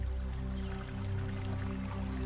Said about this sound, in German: Ein leichter Wind umschmeichelt deinen Körper und gleitet weiter in die Baumkronen hinein. Leise rascheln die Blätter und das Geräusch vermischt sich mit dem sachten Plätschern eines Baches.